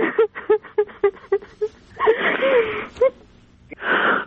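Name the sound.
woman crying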